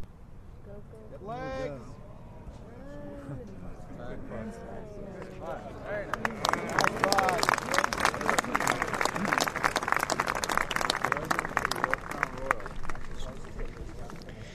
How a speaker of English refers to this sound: Let's listen to the crowd and see how they react to his putt.